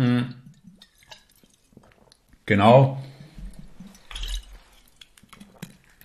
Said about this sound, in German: Ich werde kurz einen Schluck Wasser nehmen.